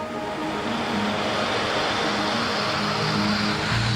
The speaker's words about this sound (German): In der Fabrik wird diese Pampe erstmal aus dem Topf gelassen. Und damit nichts drin bleibt, wird mit Wasser nachgespült.